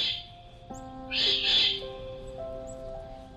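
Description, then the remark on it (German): A jay, flying off with an acorn in its beak, gives a short, harsh, raspy screech midway through, over a bed of soft sustained musical tones that shift in pitch. “Triumphierend fliegt der Vogel schließlich mit einer Eichel im Schnabel davon.”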